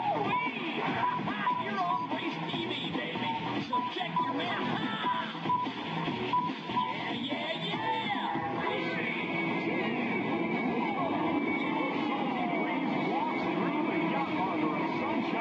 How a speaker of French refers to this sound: J'essaie tant bien que mal de vous faire voir le début d'une course de Sega Race TV